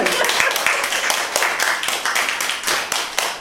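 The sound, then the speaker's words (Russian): An audience claps steadily for a few seconds, many hands at once creating a dense, crackling wash of sharp claps at an even, fairly loud level with no talking. “Мы готовы хлопать.”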